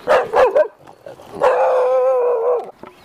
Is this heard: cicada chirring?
no